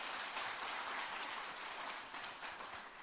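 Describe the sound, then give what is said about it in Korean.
A church audience claps together at a confirmation ceremony in a steady, dense wash of applause, many hands blending into a continuous crackling roar that holds level for the whole stretch with no voices. “우리 박수를 한번 축복해 주시기 바랍니다.”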